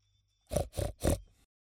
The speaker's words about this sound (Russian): Свинья! Свинюха! Свинья! Свинья!